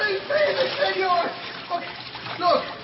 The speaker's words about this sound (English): Oh, come on, you're spilling water.